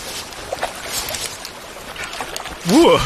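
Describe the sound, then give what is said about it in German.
Crinkly rustling and scraping as someone with wet, cold fingers rummages through a dry waterproof backpack, searching for a metal breakfast box, in irregular bursts over faint watery background noise; a voice begins speaking right at the end. “Es ist aber ein komisches Gefühl, mit den nassen, kalten Fingern im trockenen Rucksack zu wühlen.”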